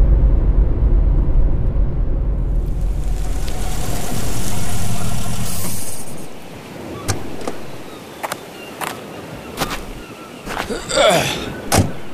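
A car that has arrived idles with a low, steady engine rumble, then fades down, followed by a series of sharp clicks and thumps like car doors and latches.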